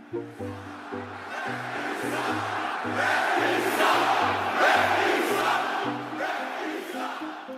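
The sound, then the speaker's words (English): A huge arena crowd of about 18,000 people screams and boos continuously, a dense wall of voices that swells louder midway, with a steady rhythmic low thumping running underneath. “Does the sound of those 18,000 people screaming at you or booing you, does it sound any different than it sounded when you started in 1991?”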